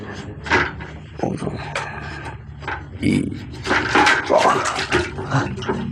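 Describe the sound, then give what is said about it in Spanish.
Rushing river water churns and gurgles, a dense, muffled wash with bubbling surges that swell louder toward the end, like sound heard from beneath the current. “La tapa salta del resto de la caja y es arrastrada al momento por la corriente del río.”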